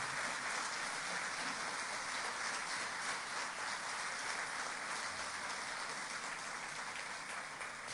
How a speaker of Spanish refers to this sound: Les pido, por favor, un aplauso de optimismo para todas esas personas que hacen posible que las cosas vayan mejorando.